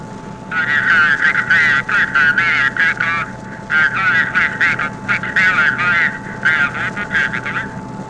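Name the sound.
airplane engines revving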